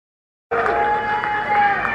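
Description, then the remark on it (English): At a political coalition summit, a large crowd boos and shouts at a speaker, interrupting his remarks by screaming the word traitor: a sustained loud roar of many voices with drawn-out jeering tones that starts abruptly after a brief silence and continues steadily. “Today, he did get applause, but he also was booed, and people continually interrupted his scripted remarks, screaming out the word traitor.”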